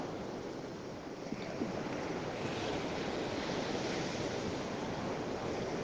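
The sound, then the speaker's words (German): Steady, continuous surf noise of ocean waves washing onto a white sand beach, a broad wash of sound with no distinct individual breaks, at a constant moderate level with no voices. “Übergib sie dem Meer.”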